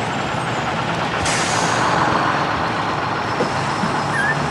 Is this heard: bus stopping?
yes